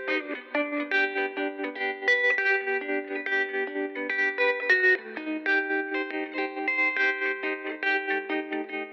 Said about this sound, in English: If you tease apart the theme, you can find elements of the show, that the ukulele has this sort of happy, bright sound, but that there's something a little more melancholy about the bells and the guitar.